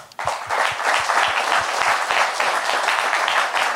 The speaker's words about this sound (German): Dann nochmal einen herzlichen Applaus